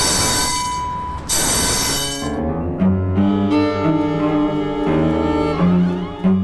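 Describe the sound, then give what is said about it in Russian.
A tram rumbles past, its wheels squealing and screeching on the rails in sustained metallic tones over a low rolling rumble, loud throughout with no voices. “больше полукилометра от трамвайных путей, так у нас здесь можно в тихий вечер услышать, что прошел трамвай.”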